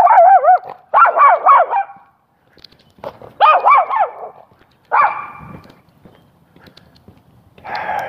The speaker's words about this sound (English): Dogs, yappy, yappy, yappy dogs.